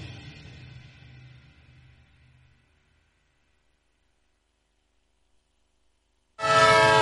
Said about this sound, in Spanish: Un tren que se va.